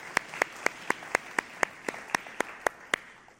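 A group claps together in a steady, even rhythm, about a dozen crisp, sharp claps in quick succession with no voices over them.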